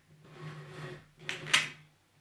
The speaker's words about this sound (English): What the fuck are you doing? I thought I didn't need to contribute to this, so I'm just kind of dicking around looking in my drawers.